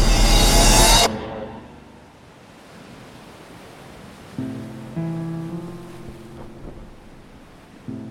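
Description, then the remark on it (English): Ocean waves surge in with a loud wash, then settle into a low, steady rolling rumble as a sailing boat rides the swell at sunset, with faint creaking tones rising midway. “The sun was setting on my hometown as I sailed towards my new home across the waves.”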